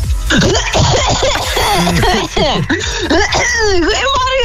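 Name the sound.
woman coughing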